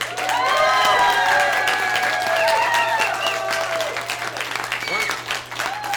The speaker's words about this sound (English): Why don't we give a big round of applause to these two young people who've made this thing wonderful.